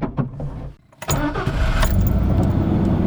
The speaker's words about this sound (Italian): Le auto si muovono. Per prima c'è la staffetta, la macchina che apre il gruppo, la Fiat Croma marrone con a bordo gli agenti Rocco Di Cillo, Antonio Montinaro e Vito Schifani. Al centro c'è l'auto bianca di Falcone.